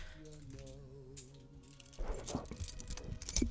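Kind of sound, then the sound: household object, keys jangling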